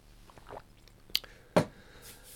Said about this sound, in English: Let me have another slurp.